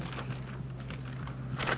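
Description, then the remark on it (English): Soft, quick rustling of telephone book pages being flipped to look up a phone number, a series of faint papery swishes over a steady low hum and background hiss. “The sound of the flipping pages.”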